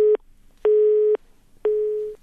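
A telephone busy signal on a dropped call during a live phone interview: three steady, evenly spaced beeps of the same pitch, each about half a second long with equal pauses between, clear and fairly loud with no one talking.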